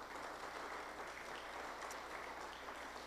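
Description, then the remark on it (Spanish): An audience applauds the Lord, the King of Kings, together, a dense, steady wash of many hands clapping at an even loudness for a few seconds, with no voices standing out. “Démosle un buen aplauso al Rey de Reyes y Señor de Señores.”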